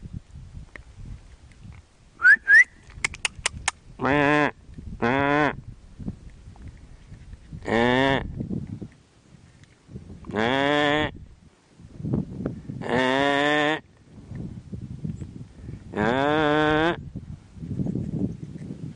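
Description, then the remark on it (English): A sheep bleats about six times, wavering, quavering calls spaced a few seconds apart, with a few sharp clicks near the start and low rustling noise in between. “Talking sheep.”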